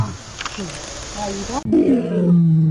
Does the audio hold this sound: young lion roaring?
yes